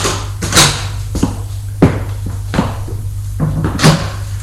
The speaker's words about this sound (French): Il ouvre la porte 6.